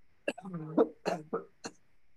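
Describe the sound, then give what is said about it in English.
A fit of harsh, loud coughing from someone with a cold: about five rasping bursts in quick, uneven succession, some trailing into a throaty, voiced rattle, with no talking over them. “Hang on, I've got a cold. I'm going to have to cough.”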